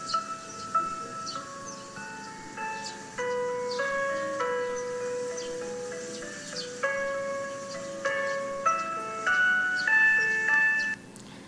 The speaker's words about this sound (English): This is actually a sound to kindly encourage kids to come home from school. Or because, you know, they're out playing or whatever.